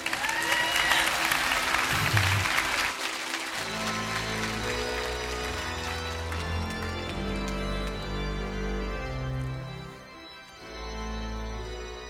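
A wedding crowd bursts into loud, dense applause for the newlyweds for about three seconds, just after the officiant pronounces them husband and wife at a ceremony in Louisiana. Then bright instrumental music with a steady bass line takes over while the clapping fades beneath it.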